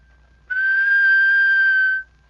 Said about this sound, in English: It's easy. All you need is an ordinary whistle, an average ear for music, and a lot of practice. Let's start with a plain whistle.